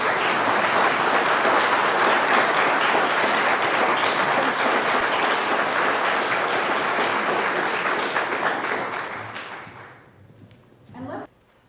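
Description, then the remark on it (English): An audience claps steadily and loudly for about ten seconds to celebrate its newest members, a dense wash of many hands that tapers off and fades out, followed by a brief soft sound near the end. “Let's celebrate our newest members with a round of applause.”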